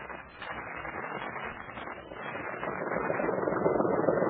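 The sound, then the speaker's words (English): The motor of a Japanese patrol boat on a river runs steadily with a rapid, chattering mechanical rhythm, growing slightly louder and more rumbling toward the end, with no voices. “I never thought I'd be going down a river at the wheel of a Nipponese patrol boat.”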